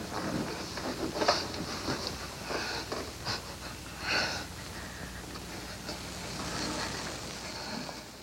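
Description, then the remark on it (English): Soft, wet kissing sounds of two people kissing passionately in a film scene, with faint squeaks and breathy sniffs, coming in short irregular bursts over a quiet background with no talking. “And that silence and then the little squeaking is them kissing passionately after she's attempted in vain to fight him off and then, and then gives in.”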